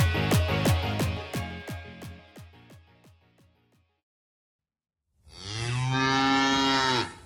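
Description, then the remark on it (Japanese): A cow lets out a rough, pulsing moo that trails off, then after a short silence gives a second long, loud, steady moo. No one speaks. “牛の爪切り、作定を知っていますか？”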